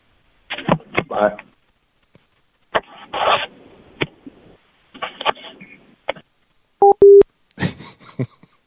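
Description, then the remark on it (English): A couple of short, clear telephone keypad beeps sound in quick succession, surrounded by brief bursts of muffled talking and rustling before and after. “I think I just called Pauly Shore.”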